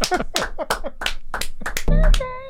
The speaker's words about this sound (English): Clap.